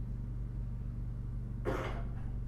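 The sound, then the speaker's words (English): A single short cough bursts out near the end, moderately loud, over a steady low hum that runs through the whole recording. No one speaks. “When we hear that, when we hear that cough, notice who it is that's coughing.”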